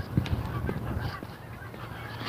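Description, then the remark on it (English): Geese honk repeatedly overhead, several calls overlapping from three or four skeins of geese sorting themselves out in the sky, with a steady low rumble of background noise underneath. “There's like three or four skeins of geese that are trying to sort themselves out up here.”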